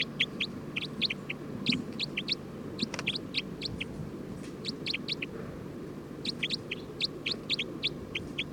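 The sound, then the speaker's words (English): Bird number 306, a loud one, being recorded as it calls in quick bursts of sharp, high-pitched chirps, pausing briefly between clusters, over a steady low rumble. No one speaks. “Recording bird 306.”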